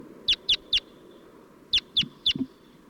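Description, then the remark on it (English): Two birds call, one giving alarm calls and the other flight calls, in two quick bursts of three sharp, high notes each, evenly spaced, with a soft low rumble of background noise and a faint extra call near the end. “5-7's giving alarm calls, and 40's giving flight calls.”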